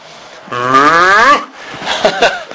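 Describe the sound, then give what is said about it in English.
A single drawn-out cow moo lasting about a second, loud, with a rising harmonic tone, followed by some softer rustling background noise. “It's a moo.”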